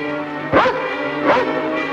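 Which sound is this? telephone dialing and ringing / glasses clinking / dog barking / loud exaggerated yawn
dog barking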